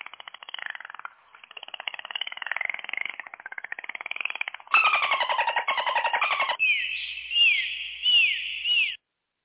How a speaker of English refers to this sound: The clicks are the dolphin clicks. Oh, see that? I didn't know. That's why I have to ask. So this is all dolphin language.